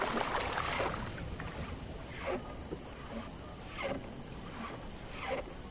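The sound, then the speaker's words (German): A ferryman's canoe paddle dips into a river at night in slow, even strokes, a splash roughly every second and a half, soft swishing sounds over a faint steady high hiss, with no voices. “Mit ruhigen Bewegungen teilt das Ruder das Wasser.”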